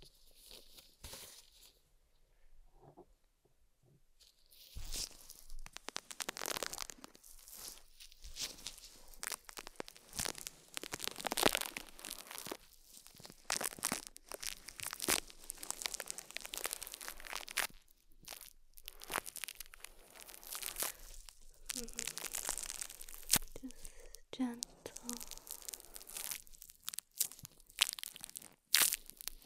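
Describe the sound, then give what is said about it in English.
Dense, fizzing crackle of soapy bubbles popping continuously as soapy bubbles are applied during ear cleaning, a bright crinkly texture with frequent sharp pops, fairly loud and steady after a quieter start, with no talking. “Maybe a little more soapy bubbles for you.”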